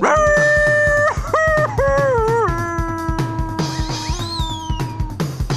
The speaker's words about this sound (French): Le loup, le grand méchant loup tout noir, plongea en hurlant dans la marmite d'eau bouillante.